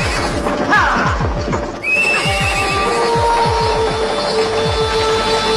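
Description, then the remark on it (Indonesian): A horse whinnies once, followed by steady, rhythmic clip-clop of hooves as a horse-drawn carriage carrying a noblewoman rolls off toward Katumenggungan Jayang Laga, its wheels rumbling and creaking beneath the constant hoofbeats. “Dan tak lama kemudian, putri bangsawan itu pun sudah duduk di atas kereta yang melaju ke arah dalam Katumenggungan Jayang Laga.”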